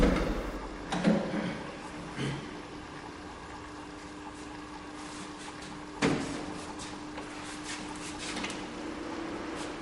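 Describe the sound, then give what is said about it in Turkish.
A person closes a door, with a few soft knocks and handling clicks, then one sharper thud around the middle, over a steady low hum. “Ayakkabılarını giydi, kapıyı kapatıyor.”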